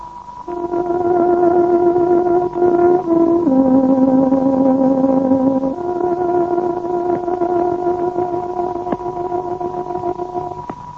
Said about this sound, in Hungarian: Kedves hallgatóink, pontos időjelzést adunk. Tárogatónk 24 órát jelez.